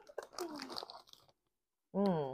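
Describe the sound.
Close-up crunching of crunchy corn snacks being chewed, a dense burst of crackly bites lasting about a second, overlapping with a voice, then a brief pause before someone speaks loudly.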